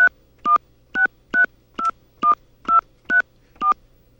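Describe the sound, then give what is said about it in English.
A rapid series of nine touch-tone beeps, each a short dual-pitched electronic tone, evenly spaced about half a second apart as a home telephone number, starting with the area code, is keyed in on a phone keypad during an automated customer service call, clear with no voices. “Okay, I'm going to enter my phone number.”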